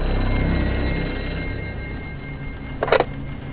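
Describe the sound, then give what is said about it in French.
A telephone bell gives one short, bright ring near the end, heard alone over a soft background hiss with no one speaking. The phone rings in the south of France while it is raining heavily. “Le téléphone sonne.”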